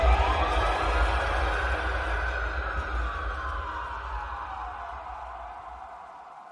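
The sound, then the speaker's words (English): Sirens wail far off, their pitch sliding slowly up and then down over a steady low rumble, the whole scene gradually fading. No one speaks. “It curled up and lay still as my dad screamed and sirens wailed in the distance.”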